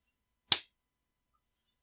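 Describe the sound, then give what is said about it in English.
A single sharp slap on skin lands once, loud, with a quick crisp attack that fades fast into silence. No voices are heard. “Slap me. Come on, just do it!”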